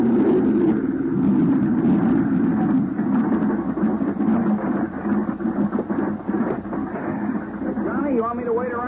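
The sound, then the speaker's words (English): A small plane glides down at night to land on a dry lake bed, its engine a steady, loud, rumbling drone that wavers slightly, with a brief warbling tone rising near the end. “By way of answer, he put the plane into a glide and set us down on the smooth surface of a dry lake bed.”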